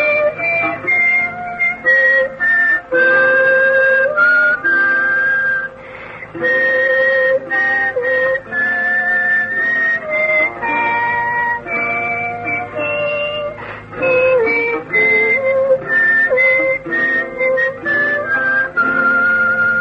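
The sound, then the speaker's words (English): A woman hums a slow lullaby melody while whistling a higher harmony line at the same time, the two tones gliding together steadily for about twenty seconds, with no talking. “She actually sang and whistled at the same time, humming the melody and whistling the harmony.”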